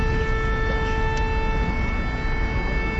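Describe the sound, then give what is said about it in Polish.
A steady, sustained factory siren tone at a rail vehicle factory (Cegielski, Poznań, Poland) holds throughout, loud and unbroken, layered over a constant rumbling background noise, with no voices. “Dziś w fabryce pojazdów szynowych zawyły zakładowe syreny.”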